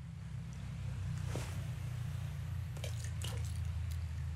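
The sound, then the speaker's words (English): A few small, sharp plinks and splashes of coins being thrown by hand into a body of water below break through a steady low rush of flowing water, with no talking. “if I throw coins into the body of water below”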